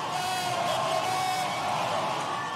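An election night crowd at the Orpheum Theater in downtown Madison, Wisconsin, on November 6, 2018, cheers wildly as the governor's race is called, in a steady, dense roar, with high whoops and shouts rising above the din, never letting up.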